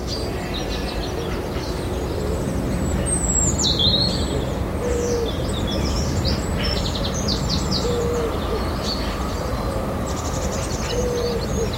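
Quentin Howard's recorded birdsong: several birds chirp and trill in bright bursts over a steady outdoor hum, while soft, low hoot-like calls drift in now and then.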